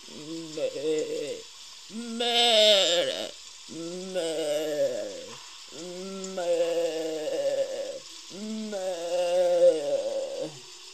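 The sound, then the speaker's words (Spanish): A goat, pulled along by a man and struggling to escape, bleats over and over in long, quavering, strained cries separated by short pauses, loud, with a steady hiss of background noise underneath. “Enseguida, por un costado del lobby, entró un hombre jalando una cabra.”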